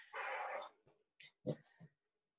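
puppy barking and whimpering

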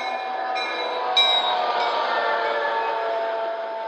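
train arriving at station

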